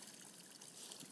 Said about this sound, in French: C'est un bruit de cascade qui se fait entendre. Le ruissellement de l'eau sur un rocher.